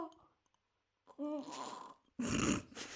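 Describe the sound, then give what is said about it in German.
A small pet animal named Paula grunts and snorts, a short voiced grunt followed by a louder, breathy, rasping snort after a brief pause. “Wenn Paula grunzt, gibt es einen Schnaps.”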